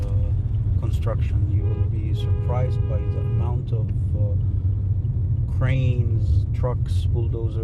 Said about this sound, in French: La scène est saisissante. Au milieu du désert, des centaines de bulldozers sont à l'action sur environ 20 km². Les camions remplis de sacs de ciment défilent sur de toutes nouvelles routes qui forment des bretelles et des virages